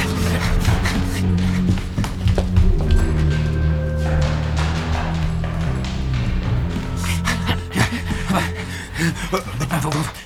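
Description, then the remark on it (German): Rapid, heavy footsteps pound along a hallway as people run in pursuit of someone, mixed with panting breaths and a steady low hum, the thuds coming fast and uneven throughout. “Er rennt in den Flur! Hinterher! Ja, los!”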